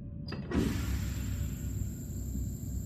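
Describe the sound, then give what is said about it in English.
Mechanical doors of the Atlantis station slide open with a short motorized whir and clunk near the start, followed by a thin steady whine over a continuous low rumbling hum. “My ears painfully popped as the doors opened.”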